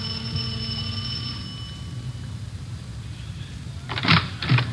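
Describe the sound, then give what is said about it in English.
A doorbell at the front door of a house on Wonderland Avenue, rung by two police officers, sounds a sustained, bright chime that slowly fades over a low background hum, followed near the end by two short, sharp clunks. “We went up the front stairs and rang the doorbell.”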